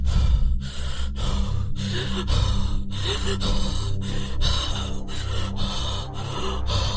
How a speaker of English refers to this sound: She appeared to be around 16 or 17 years old and was panting continuously, as if she were having difficulty breathing.